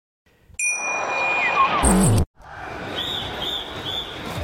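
A single deep bell strike opening a rock song rings out loudly and decays, then a burst of crashing noise cuts in, followed after a brief pause by a steady, washy rumble.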